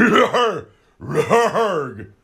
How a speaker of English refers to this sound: You gotta clear your throat